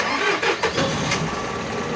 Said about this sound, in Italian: Via, siamo partiti. Eravamo entrati in Europa. Abbiamo tutti gioito, urlando forte, con il rumore del tir che correva sull'autostrada, tanto non ci sentiva nessuno.